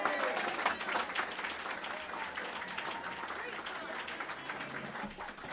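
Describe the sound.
An audience claps steadily for several seconds, a dense, even patter of many hands at fairly constant loudness, with some crowd voices blended into the applause, applauding a speaker after her talk.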